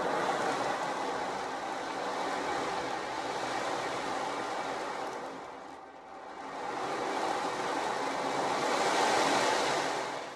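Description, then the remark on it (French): Steady ocean waves wash in with a broad hissing roar, easing briefly around the middle before swelling again into a fuller surge of surf, with no voices present. “Assise sur son rocher, Mila la sirène profite de la douceur du soleil de printemps en écoutant le son des vagues.”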